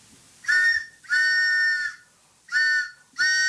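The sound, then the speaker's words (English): A train whistle sounds four loud, steady, high-pitched blasts: a short one, a long drawn-out one, then two more short ones, with brief silences between and no voices. “It's the BAI pitching train.”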